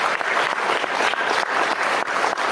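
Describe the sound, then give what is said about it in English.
Steady, vigorous applause from a group, a dense crackle of many hands clapping at once with no pauses, loud and continuous throughout. “Good vigorous applause, guys.”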